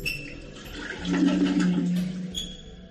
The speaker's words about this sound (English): What a noise. Sounds like the water's being cut off. But who had fun doing that? The lawyer, I suppose.